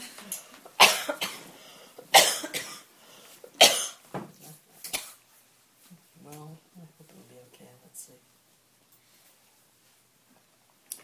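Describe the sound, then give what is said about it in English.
Four harsh coughs from a person leading a meditation burst out at uneven intervals over the first five seconds, followed by a few seconds of soft, low talking and then near silence. “So, even though I'll be coughing, it's too bad.”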